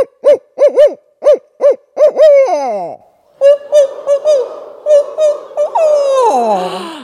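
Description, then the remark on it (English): Human voices imitate barred owl hoots: a leader first calls a rhythmic run of short rising-falling hoots, then the group answers with its own hoot sequence ending in a long descending wail. Loud. “Now we're going to mimic that same pattern with our owl face on. I'm going to call first, and then you call back.”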